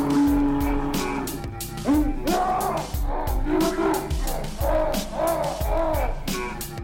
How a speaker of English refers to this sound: Now the pace cars coming out of that turn, pulling into the pit area.